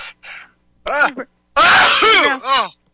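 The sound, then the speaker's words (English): A loud sneeze, with a few short breathy catches of air leading up to it and a voiced trailing tail afterward, heard alone with no talking. “God bless you.”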